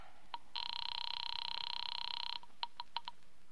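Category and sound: signal or alarm, telephone line ringing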